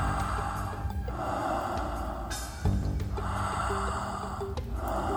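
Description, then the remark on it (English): A long, airy breath drawn in, then a slow, easy breath let out, steady over a soft sustained background hum, with no talking. “How much presence would you like to have right now, exploring this moment with the depth and the richness of a full inhale and an easy, relaxed exhale?”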